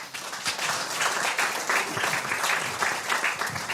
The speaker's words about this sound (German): Nochmal herzlich willkommen und einen satten Applaus für